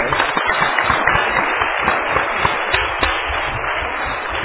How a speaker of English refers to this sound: So can everyone do a quick round of applause for Wendy?